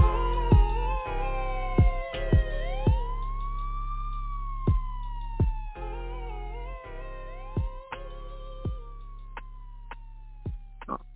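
Police and ambulance sirens wail with slow rising and falling sweeps, overlapping steadily for several seconds, punctuated by sharp clicks and knocks over a low steady hum.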